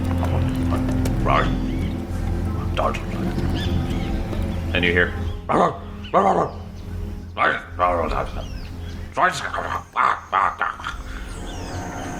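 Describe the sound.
A dog barks in a run of sharp, repeated yaps, a few spaced out and then several in quick succession, over a steady low hum, with a person speaking briefly.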